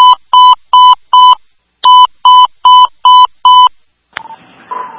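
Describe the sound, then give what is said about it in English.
Fire dispatch evacuation tones ordering members out of a building at risk of collapse: nine loud, steady electronic beeps in two evenly spaced runs, four then five, ending with a sharp click and a burst of crackly radio static. “Dispatch. Alert evacuation tones.”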